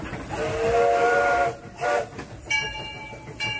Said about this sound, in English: That's the steamboat whistle. Also, you could, if you get on the Mark Twain, you can actually ask them. Like this? You can ask them if you could do the whistle, and they'll let you do it.